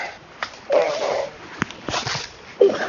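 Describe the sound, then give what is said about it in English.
A domestic cat seeking attention gives a couple of short, soft chirping meows, with faint clicks and rustling between them. “Of course, now I have a cat trying to come and be helpful and get love.”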